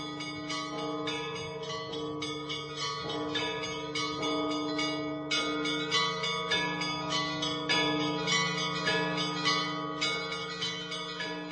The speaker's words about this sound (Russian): когда в очередной раз они идут на этот молебен, тимьянцы, они слышат звон колоколов, то есть как бы Россия возрождается, она все равно вернется. Этот звон колоколов, есть надежда на это возрождение, воскресение России.